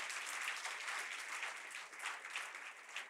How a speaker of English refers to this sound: Get an applause. Yeah. Thank you.